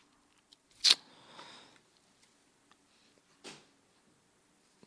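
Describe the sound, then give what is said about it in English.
Dice rolling, starting with one sharp clack and a short rattling tumble, then a second quieter clack a few seconds later. No voices, just faint background hiss between hits. “Well, I rolled dice.”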